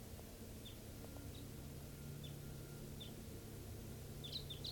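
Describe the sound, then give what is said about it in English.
A wild bird, a red male down in a tree near a truck, gives short, high chirps every second or so, growing into a quick cluster near the end, faint over a steady low hum and background noise, recorded around 6:20 a.m. “Yeah, I thought I heard a wild type 2 bird coming in.”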